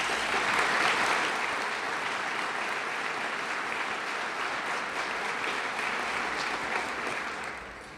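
An audience at a City Club event applauds its sponsors steadily, a dense wash of clapping that holds at a strong level for several seconds before easing slightly near the end.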